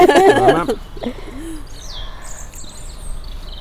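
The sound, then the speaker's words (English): Outdoor birdsong: a soft low cooing near the start, then thin, high chirps and whistled calls scattered through the rest, fairly faint against a steady background hiss. “Oh, listen to those birds.”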